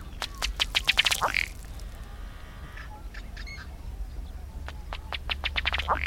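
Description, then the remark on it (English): A male ruddy duck's display: running across the water with rapidly beating wings, its feet make quick bursts of pattering taps on water, accelerating like a tiny motor, one run at the start and another near the end over a low outdoor rumble. “After the bubbling display, the male will usually run across the water with rapidly beating wings, his feet putt-putting like a little motorboat.”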